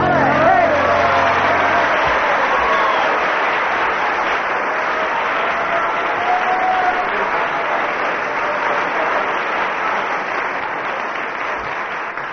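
A crowd applauds loudly and steadily, dense clapping with some cheering filling the whole stretch, tapering only slightly toward the end.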